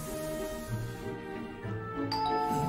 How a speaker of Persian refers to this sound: زنگ در خونشون میخوره. هر دو به سرعت به سراغ در میرن.